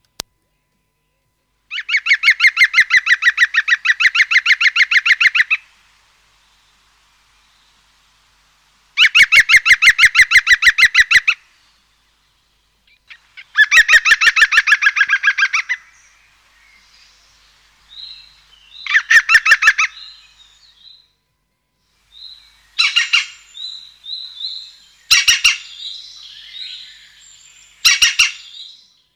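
A green woodpecker's loud, ringing laugh: rapid runs of repeated high notes in three long bursts, followed by shorter, harsher alarm cries and calls as it flies off, in irregular clusters, with no talking.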